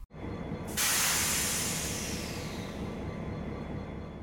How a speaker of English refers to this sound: Next up is the Steam Hiss.